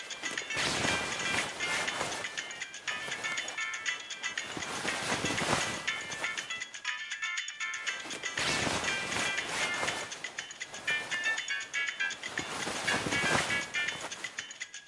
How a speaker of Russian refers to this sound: На тумбочке перед кроватью звонит телефон.